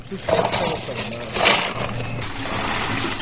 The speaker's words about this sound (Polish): Jeżeli maszyna mówi, że proszę dokonać wpłaty, wysypuje pani... Czyli już można wysypać pieniądze. Tak, wysypuje pani.